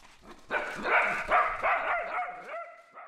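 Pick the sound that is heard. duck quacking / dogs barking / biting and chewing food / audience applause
dogs barking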